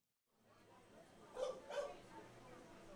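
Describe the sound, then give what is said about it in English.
Two short, sharp dog barks ring out a moment apart over a steady hum of crowd chatter at the Memorial Sports Center in Middlebury, Vermont, where more than 200 dogs and their owners gathered for a screening of Inside the Mind of a Dog, attempting a Guinness World Record. “More than 200 dogs and their adoring parents gathered at the town's Memorial Sports Center in an attempt to break the Guinness World Record”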